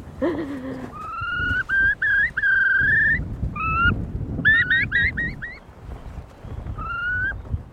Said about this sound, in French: Encore un courlis cendré là-bas. Vous savez, on les voit, hein, ils commencent déjà à être chassés par la marée haute.